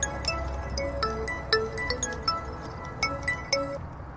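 A mobile phone rings in a ruin with a tinkling, chime-like melody of short bright notes over a low background rumble. The notes come in an uneven pattern and stop just before the end.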